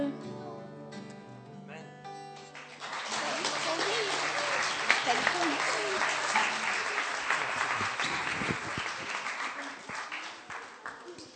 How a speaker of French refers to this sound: Merci à tous ceux qui l'ont préparé, aux enfants. On les applaudit une dernière fois.